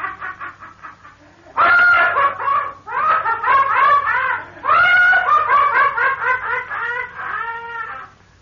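A woman screams in loud, shrill, quavering bursts, three long cries rising after a fainter start, with no talking around them.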